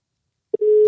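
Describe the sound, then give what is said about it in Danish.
A telephone ringing tone on an outgoing call to Spain starts after silence: a brief electronic blip, then a steady, clear single-pitched tone that holds to the end, fairly loud. “Telefonen ringer i Spanien.”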